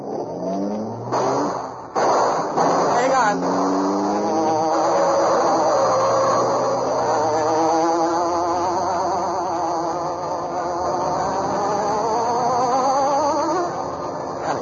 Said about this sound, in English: There was no escape from the careening car that dashed through city streets, skidding through sharp turns. Then there was a fast, quick run and a sudden halt.